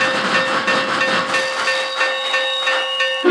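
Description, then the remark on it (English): A steam locomotive hisses steadily in a rail yard, a loud, continuous rush of steam with a faint whistling tone and occasional clanks, ending in a louder burst. “like there's a circus train in the yard.”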